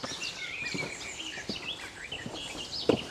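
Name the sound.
garden warbler singing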